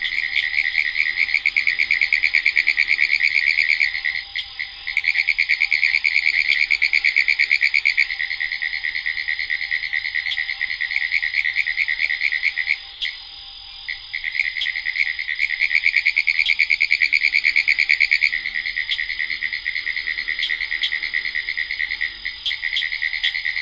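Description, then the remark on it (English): A dense chorus of pine woods tree frogs in a boggy spot, trilling continuously in rapid, overlapping pulses, loud, with brief dips and calls blending into a steady ringing wall of sound; occasional notes from southern cricket frogs and green tree frogs. Recorded by Lang Elliott and Ted Mack for the CD Voices of the Swamp. “it's there in a boggy spot that these pine woods tree frogs lift their froggy voices in song”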